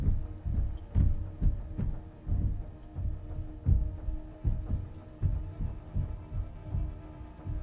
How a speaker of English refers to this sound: Hear it? It's walking back and forth up there. It is walking, definitely.